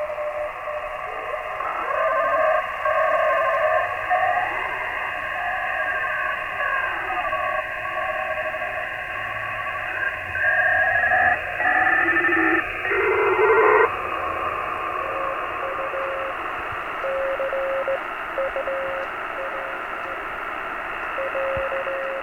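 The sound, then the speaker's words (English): Evenly timed, machine-sent Morse code beeps in a steady high tone, keyed with precise regularity through a wash of radio static and warbling interference. “Like that's machine-driven code. It's too perfect.”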